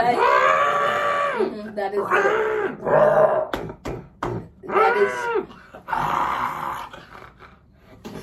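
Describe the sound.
A voice growls and roars in a series of drawn-out, rasping snarls, imitating a giant movie monster, loud with short breaks between bursts.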